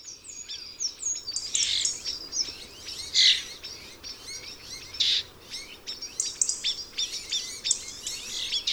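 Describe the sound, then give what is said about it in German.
Starling song in an autumn scrub forest in Cabañeros: a continuous, busy stream of high chirps, clicks, rattles and bright whistles, with a few louder bursts over a soft, steady background hiss. “Herbst im Buschwald. Stars im Wald.”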